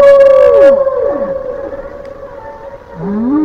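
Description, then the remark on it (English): A breaking-news sounder introducing breaking soccer news rings out alone: a loud, sustained mid-pitched tone with rich harmonics, cut by a few sliding downward swoops that give it an eerie, whale-like moan. “Do we have the news sounder?”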